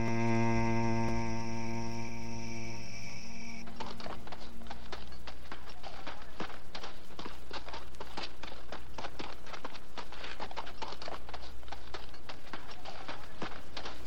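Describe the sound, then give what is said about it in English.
Donkey hooves clip-clop in a steady walking rhythm, fairly loud, continuing throughout after a sustained musical tone fades out in the first few seconds. The sound is of a borrowed donkey carrying Jesus, the Prince of Peace. “The Prince of Peace comes riding on the back of a borrowed donkey.”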